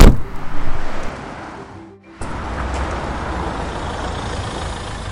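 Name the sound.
car driving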